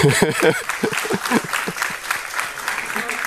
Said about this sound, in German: Ihr dürft auch jetzt schon gerne klatschen.